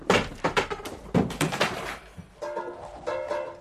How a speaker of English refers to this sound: There followed a great rumpus, with furniture thrown over and doors kicked in, until the very rocks re-echoed.